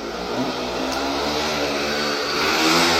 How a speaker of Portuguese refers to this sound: E a moto. Na verdade é uma moto, não é aquelas mobiletes, aquelas bicicletas que faz mais barulho do que anda, né? Parece que o motor é um motor de barulho, né? E não é um veículo, né? Mas ele passa aqui todo dia, né?